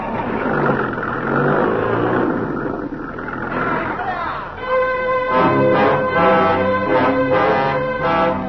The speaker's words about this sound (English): Boys, there's a truck. That's what we need. Stop the engine. Stop the engine.